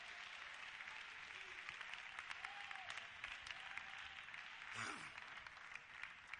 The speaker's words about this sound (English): Come on, somebody, clap your hands to the Lord.